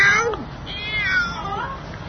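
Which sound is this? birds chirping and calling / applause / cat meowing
cat meowing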